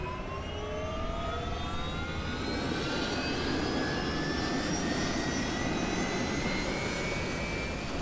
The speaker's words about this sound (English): The helicopter takes off and heads to altitude as the drop zone safety officer informs them of the constantly evolving wind conditions on field.